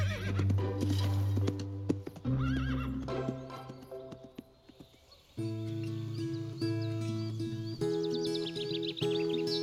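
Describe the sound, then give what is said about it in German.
A horse whinnies amid the steady clatter of hooves as it is ridden at full gallop out of a tent camp, all set against sustained music chords that shift a few times throughout; no one speaks. “Doch Elisabeth war bereits auf ihr Pferd gesprungen und im gestreckten Galopp aus der Zeltstadt geritten.”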